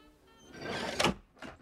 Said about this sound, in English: A peephole on a door slides open.